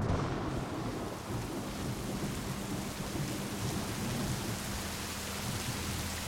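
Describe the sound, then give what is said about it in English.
A dense, steady roar of heavy rain pours without pause, with deep rolling thunder rumbling low underneath throughout, during a storm on the morning of May 31, 1889, in the mountains around Johnstown, Pennsylvania. No voices are heard. “The morning of May 31st, 1889, John Park looked out the window to see an onslaught of rain.”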